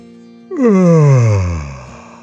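A dragon's long, loud voiced yawn swells up suddenly and slides steadily downward in pitch, trailing off into a low groan over about a second and a half.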